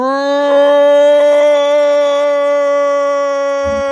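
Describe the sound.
Human voices let out a long, loud, animal-like roar, held as one steady sustained cry for several seconds before cutting off.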